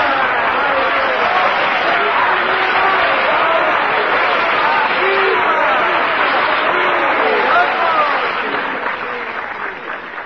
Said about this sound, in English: One of the world's outstanding pianists, Mr. Hosea Turby, has just concluded the last selection before intermission. But the applause and cheers force him to do a short encore.